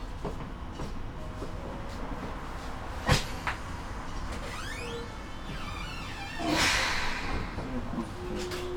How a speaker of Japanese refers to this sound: はい、発車となります。